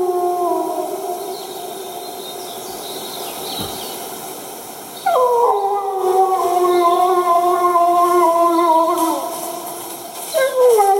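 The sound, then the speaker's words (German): A wolf howls from medium distance in long, sustained, wavering tones with several stacked harmonics, swelling and falling over about eleven seconds, while many robins sing in the background. “Wieder Rotkehlchen singend, Wolf aus mittlerer Distanz.”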